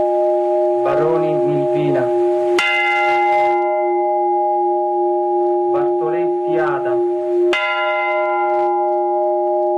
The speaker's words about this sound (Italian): Voci, suoni, rintocchi delle campane a ricordo delle vittime, una delle veglie di questa notte di cui vi stiamo riproponendo appunto alcuni suoni